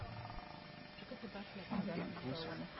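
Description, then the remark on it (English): Low, rumbling growls and strained bellowing from a lion attacking an isolated baby buffalo, a continuous struggle lasting a few seconds, moderately loud against a steady outdoor background. “Remember that baby buffalo that was isolated and got attacked?”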